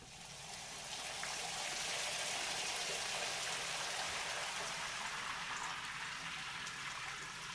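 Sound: shower water running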